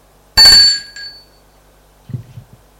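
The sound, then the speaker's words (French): A man rings at the door: a doorbell rings with a bright, ringing ding and a softer second tone that fades out, followed after a short pause by a few low, muffled thumps. “Il sonne à la porte.”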